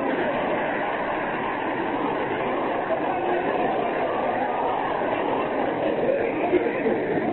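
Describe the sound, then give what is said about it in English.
A car engine knocks and sputters in a steady, rough, rattling drone that holds at an even, fairly loud level from start to finish. “Listen to the knock in that motor.”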